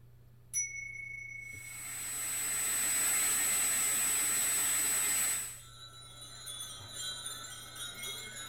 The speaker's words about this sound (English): I hear the distant sound of a wind chime. I despise that sound.